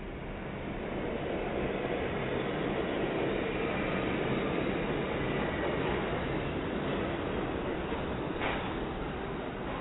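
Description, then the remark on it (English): A steady, dense rumble of a subway train running on its rails, a continuous roar with faint rattling that stays at an even loudness throughout, with no speech over it. “You on the subway.”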